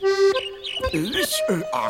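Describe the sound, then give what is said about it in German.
A person trying to talk like a bird makes a quick run of chirpy, whistling calls with rising and falling sweeps for about two seconds, sounding more like voiced squeaks than real birdsong. “Er ist ja noch viel niedlicher, wenn er versucht, wie ein Vogel zu reden.”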